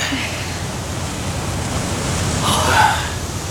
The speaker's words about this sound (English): Ah, oh, listen to the boom of those waves. It's like a gun going off. A cannon firing from Donotar's battlements.